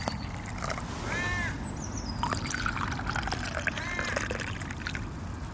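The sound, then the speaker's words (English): Warm hibiscus tea being poured into a cup, a steady trickle and splash of liquid lasting several seconds, with a few faint outdoor calls in the background. “We have here a delicious cup of warm hibiscus tea”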